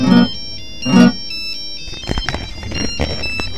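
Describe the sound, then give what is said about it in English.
Jake's mobile phone ringtone plays a repeating electronic melody of bright tonal notes, loud, with two bursts at the start followed by a busier continuing tune. “Jake's phone's ringing, folks, so I'm in charge of the microphone.”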